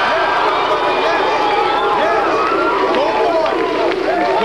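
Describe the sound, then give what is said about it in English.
The studio audience of the Arsenio Hall show chants "woo, woo, woo" over and over, many voices overlapping in loud, continuous whooping with rising and falling pitch. “No, they're going, woo, woo, woo, woo, woo, woo.”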